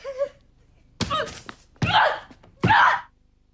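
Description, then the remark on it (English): A woman slams herself back against a wall: a few heavy, dull thuds of her body hitting the wall, each followed by strained gasps and groaning breaths, with short pauses between impacts. “She releases her emotions by slamming herself back against the wall.”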